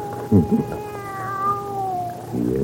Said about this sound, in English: Nobody's going to hurt your kitty, kitty. No. How about some milk, huh?